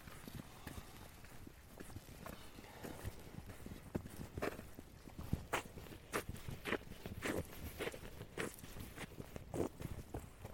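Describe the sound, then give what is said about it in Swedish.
Steady footsteps of a person walking alone outdoors at about one degree Celsius, each step a crisp crunching thud in a regular rhythm of about two per second, moderately loud over a low, constant background hiss. “Och ingen säger något, för jag går ju här själv.”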